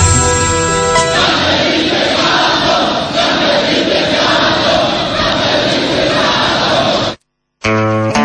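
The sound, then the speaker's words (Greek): A large crowd shouts and roars together in a loud, dense, continuous wall of voices for about six seconds. A tonal, music-like sound comes before it and again after a brief silence at the end. “Φωνάζουνε.”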